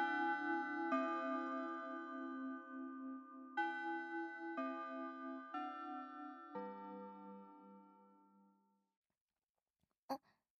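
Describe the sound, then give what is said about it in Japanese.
A school chime marking the end of fifth period plays a slow melody of about six ringing, bell-like notes that overlap and fade out over several seconds, followed by a brief sharp click after silence. “チャイム。五限目が終わったんだ。”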